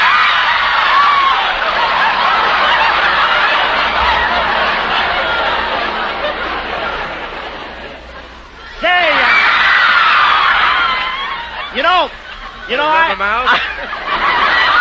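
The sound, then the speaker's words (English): A dense crowd of high-pitched voices, a studio audience of girls, shrieks and squeals continuously, then breaks into rising whoops and sharp cries near the end. “I get a lot of screams on my show, too, but my network is complaining.”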